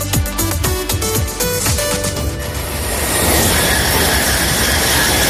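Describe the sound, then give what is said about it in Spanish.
A fast train rushes past on the rails, a quick run of rhythmic wheel clacks giving way to a loud, steady roar of rushing wind and rolling metal, with no voices. “Presumimos de trenes a 300 kilómetros por hora y de superar los 4.000 kilómetros en vías de alta velocidad en España.”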